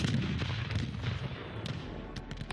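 sound effect, cannon fire

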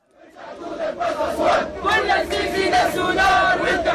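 crowd, protest crowd chanting

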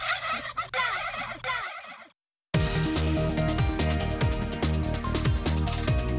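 bird, turkey gobbling

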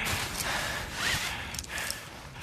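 human body sound, heavy rough breathing

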